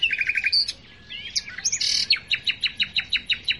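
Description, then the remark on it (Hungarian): A small brown songbird that nests on the ground in dense bushes sings clear: a quick run of repeated chirps, a burst of varied whistles and rasping notes, then a steady series of sharp, evenly spaced calls. No voices. “a bokrok sűrűjébe a talajon költ, és nyilván, hogy nagyon jó barnás rejtőszínűek kell, hogy legyen, és ezt a nem túl színpompás tollazatát az énekével ellensúlyozza. Európa legszebb hangú énekes madaraként említik.”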